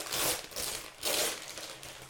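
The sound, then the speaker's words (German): Crisp crinkling of glitter wrapping paper, silver with various coloured squares, in two bursts of rustling as a gift is unwrapped, with no voices. “es ist ein eingepacktes, in Glitzerpapier eingepacktes Geschenk. Das Glitzerpapier hat verschiedene Quadrate drauf, die sind farbig, ansonsten ist das ganze Papier silbern unterlegt.”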